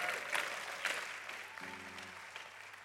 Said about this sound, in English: Come on, round of applause, please.